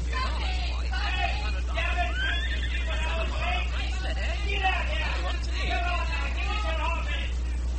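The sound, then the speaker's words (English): A horse-drawn mail coach pulls in as a horse whinnies, with a murmur of crowd voices and a steady low rumble running under it. “That must be the mail coach. Traveled all night, likely, and changed horses at Kimbleton.”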